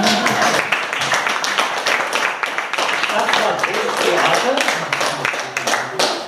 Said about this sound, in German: Applaus für Herrn Otto, Dankeschön.